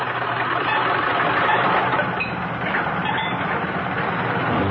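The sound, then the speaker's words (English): Jack Benny's old car engine sputters and rumbles loudly, a rough, continuous mechanical clatter that runs steadily from start to finish with no voices. “That's what my car thinks of you,”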